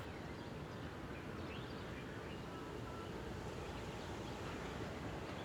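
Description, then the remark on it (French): A steady, low roar of ocean waves washes continuously throughout on a sunny day, with faint, scattered bird chirps barely rising above the surf. No one speaks. “On entend les bruits de la mer et le chant des oiseaux.”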